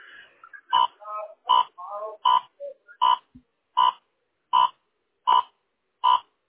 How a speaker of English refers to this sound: I'm sorry. I can't really hear you. It's like a beeping noise. Yeah, sorry. It's my radar detector.